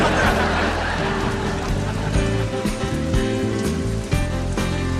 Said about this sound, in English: The rain is my fault? Why is the rain my fault?